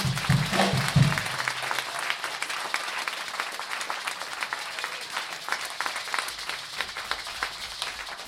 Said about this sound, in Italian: Un forte applauso, eh?